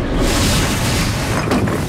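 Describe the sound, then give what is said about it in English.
A loud, sustained roaring blast of the Zorgon ship's weapon firing at the upper floor of a house, a dense low rumble filling the whole clip with a brief sharper burst near the end. “It blasts again at the upper floor, knocking over Lisa's frozen body.”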